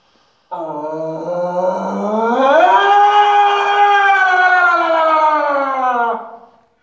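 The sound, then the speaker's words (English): A person imitates a Sasquatch (Bigfoot) scream inside a cave, about 15 feet from the listener: one long, loud cry that starts low, slides up in pitch, and holds a wavering, siren-like tone for about six seconds before trailing off in cave echo. “Now imagine a Sasquatch doing that, an 8-foot creature with the lung capacity to get the scream, because that's what it sounds like.”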